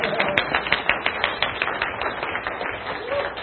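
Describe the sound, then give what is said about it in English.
An audience claps together, a dense, steady patter of many hands that carries on for the whole few seconds at an even, moderate loudness with no voices rising above it. “You guys can clap.”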